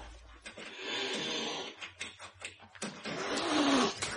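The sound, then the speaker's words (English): A cat loose downstairs in a house yowls in drawn-out, wavering cries while scratching and scraping noises come in bursts as it claws at a screen door, fairly loud. “Your damn cat's loose downstairs.”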